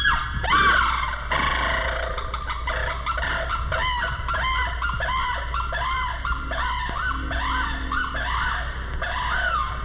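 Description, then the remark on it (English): A sarus crane at the San Diego Zoo lets out a long series of loud, shrill shrieking calls in quick rhythmic bursts, over a steady low background hum, with no one speaking. “The shrieking call of the saris crane.”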